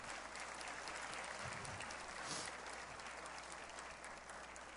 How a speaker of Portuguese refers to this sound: Eles dois, eu quero inclusive pedir uma salva de palmas